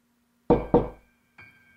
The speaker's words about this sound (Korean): 누군가 문을 두드리는 소리에 난 힘겹게 눈을 떴다. 묘하게 몽롱한 기분을 느끼며 귀를 기울여보니 다시 한번 노크 소리가 들려왔다.